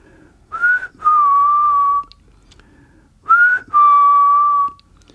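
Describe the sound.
A person whistles an old ancestral call: two matching phrases, each a short rising note followed by a long sustained tone, with a brief pause between them. The whistling is clear, with no talking.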